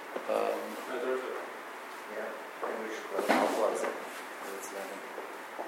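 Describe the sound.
A door opens or closes off to the side with a brief rattling clunk, partly under the murmur of people talking.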